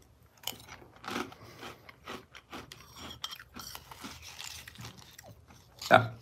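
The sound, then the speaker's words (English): Someone chews a mouthful of crunchy Cinefuego Toast Crunch cinnamon cereal, with a steady run of crisp, irregular crunches and one louder bite near the end. “Let's try it. This is Cinefuego Toast Crunch cereal.”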